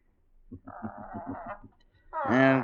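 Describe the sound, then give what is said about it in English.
A pet parrot squawks: a quick run of raspy, pulsing chatter, a brief pause, then one loud, harsh, drawn-out screech. No voices are heard. “I possess a parrot”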